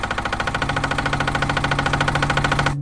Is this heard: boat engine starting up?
yes